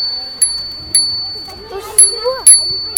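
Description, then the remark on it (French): A child rings a bicycle bell about five times in short, bright strikes at an uneven pace, with a bit of children's voices in the background between rings. “Tu veux bien faire sonner ta sonnette ?”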